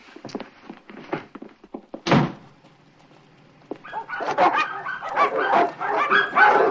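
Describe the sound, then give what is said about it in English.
A dog barks in loud, rapid bursts, the barking building into a near-continuous frenzy after a heavy thud like a door banging. “Will you get the dog?”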